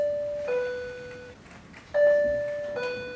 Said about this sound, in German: Und schon läutet es wieder am Schalter vom Fundbüro bei der Stadtpolizei zu Chur.